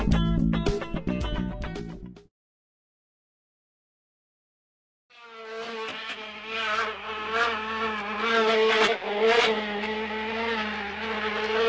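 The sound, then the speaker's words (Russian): A motorcycle with a sidecar: its engine buzzes, cuts out briefly into silence, then returns as a steady, whining drone with rising and falling revs as it drives. “Заветные канистры спрятаны в коляске мотоцикла.”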